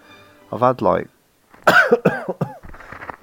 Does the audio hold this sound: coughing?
yes